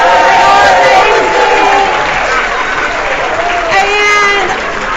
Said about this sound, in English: So let's give the teachers a big round of applause.